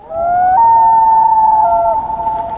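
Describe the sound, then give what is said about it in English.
A loon on a Canadian lake gives a single long, wailing call, a clear mid-pitched tone that steps up partway through and holds steady, with a soft background hiss and no voices. “A canoe gliding along said lake, its rider pausing to listen to the call of a loon.”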